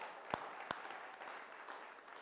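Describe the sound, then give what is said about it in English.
An audience applauds a group of teens and preteens steadily, a dense wash of clapping with a couple of sharper, louder claps standing out near the start. “and if it might be true that heaven quietly applauds, can we give these teens and preteens a taste of heaven's applaud?”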